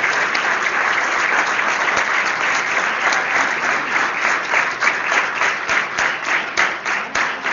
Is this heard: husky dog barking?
no